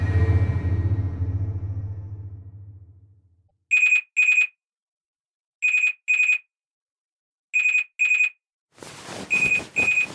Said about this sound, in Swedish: vaknar han av att det piper i hans personsökare.